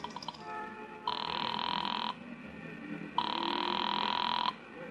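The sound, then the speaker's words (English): A telephone ringback tone sounds twice in steady bursts of about a second each, separated by a pause, heard as if through the earpiece over a low background hum, after a nickel is dropped into a phone at a filling station and a number is dialed. “dropped the nickel in and dialed Republic 2809 again, just on a hunch”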